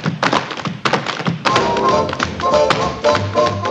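Rapid, crisp tapping from dance shoes in quick irregular bursts, loud sharp clicks layered over a steady musical backing with sustained tones.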